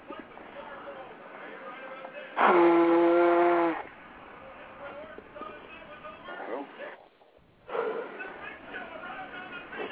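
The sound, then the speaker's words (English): A single loud, honking nose blow lasting just over a second, with a buzzy, whistle-like tone, rising out of a low murmur of voices that continues afterward. “Having me blow my nose.”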